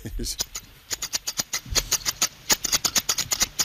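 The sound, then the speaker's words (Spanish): Scissors snip over and over in quick, uneven bursts, each cut a sharp metallic click with a crisp high edge, about twenty snips in a few seconds with no voices. “¿Unas tijeras? Claro, claro que sí.”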